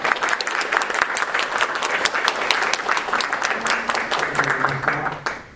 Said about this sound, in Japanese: 皆様もう一度盛大拍手をお願いします。